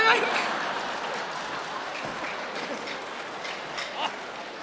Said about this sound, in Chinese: 行了，您先甭鼓掌了